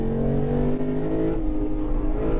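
The V8 engine of an RC F Track Edition car revs hard, its throaty harmonic roar climbing, then dipping briefly as it shifts up through first, second and third gear to 80 miles an hour, loud and continuous with no talking.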